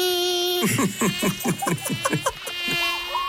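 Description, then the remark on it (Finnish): A thin, high mosquito whine hums steadily throughout, broken midway by a quick run of rhythmic, buzzy pulses before the steady drone returns alone. “Arvaa, mitä tästä kesästä puuttuu. No, hyttyset.”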